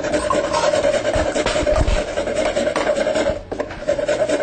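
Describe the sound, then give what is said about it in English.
Fresh nutmeg being grated, about half a teaspoon for a recipe: a steady, dry rasping scrape with quick repeated strokes, fairly loud throughout, pausing briefly near the end before resuming. No one speaks. “All right, we're going to add 2 teaspoons of cinnamon, 1 teaspoon of ginger, about 1/2 teaspoon of freshly grated nutmeg.”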